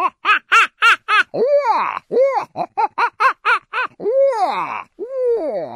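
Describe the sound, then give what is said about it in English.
Several barred owls gathered together trade a raucous monkey-like greeting call: quick bursts of short, hooting barks alternate with longer rising-and-falling cackles and wails, loud, with no talking. “Because it's a greeting call that when they get close to one another, when you have several barred owls around together, they'll start doing this.”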